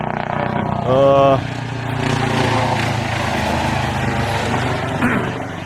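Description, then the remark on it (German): A helicopter drones steadily overhead, its low rotor throb and broad engine roar filling the whole stretch at a fairly loud, constant level, with a brief voice-like tone early on. “Jetzt kommt ja der Hubschrauber.”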